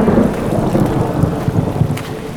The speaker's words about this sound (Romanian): Într-adevăr, furtuna care ne-a prins pe o parte din drumeți este un moment senzațional.